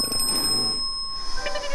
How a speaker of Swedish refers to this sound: Men jag ringer i en liten klocka så här.